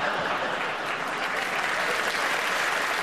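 Steady, dense applause from an audience at a comedy panel show, clapping at Graham Norton's facial expression, fills the whole stretch, a continuous crackle of many hands clapping at an even, fairly loud level with no pauses.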